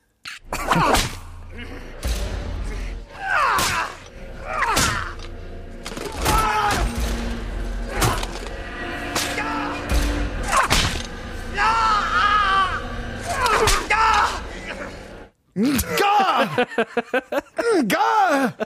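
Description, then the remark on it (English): Sharp cracks of a whip land repeatedly in loud succession as Tony Blair is flagellated in Underworld, mixed with strained guttural grunts and groans from the flagellator and the flagellee, rising into shrill screams toward the end. “So this is Tony Blair being flagellated and some extraordinary grunting going on from the flagellator and the flagellee.”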